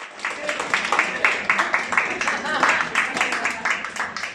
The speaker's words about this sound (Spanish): Y los cines Yelmo de los Rosales han dicho adiós tras 27 años. Este era el último aplauso del personal.